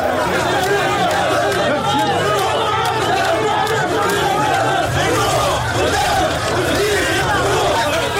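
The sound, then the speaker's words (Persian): A dense crowd of supporters chatters loudly in a street at night in Tunisia, walking alongside President Kais Saied; overlapping voices form a constant babble with occasional shouts rising above it for the whole stretch. “قیس سعید شب گذشته پس از آنکه تصمیم خود در زمینه خانه تکانی اساسی در عرصه سیاسی تونس را اعلام کرد، به خیابان رفت و چند قدمی در همراهی با هوادارانش در تاریکی شب قدم زد.”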